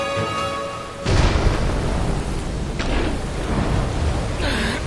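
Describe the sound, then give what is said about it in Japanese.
A roaring storm of gusting wind and heavy rain on a mountain path bursts in after a brief quieter, tonal opening, then rushes on steadily with surging gusts and a low rumbling undertone. “おい風が強え、みんな俺から離れるんじゃねえぞ。”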